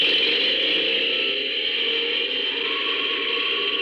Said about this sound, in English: I crawled back to the stern, found the starting cord, wound it on, and yanked.